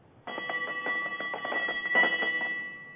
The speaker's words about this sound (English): That's my ship's bell. I love it.